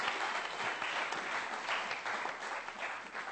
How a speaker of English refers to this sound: let's give them a clap. Well done. Hallelujah.